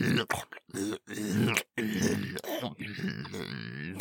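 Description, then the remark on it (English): A person imitates the sound their big, fat dog makes when eating greedily like a pig, making a run of rough, voiced grunts and snorts in quick, uneven bursts with short pauses between them, fairly loud and with no other talking. “And whenever he goes into a just full on pig out eating mode, because he will sound like a pig while eating, just going.”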